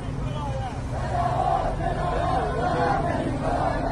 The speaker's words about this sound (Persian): و مردم با فریاد اعتراضشان مثل گدازه های آتش فشانی کهنه.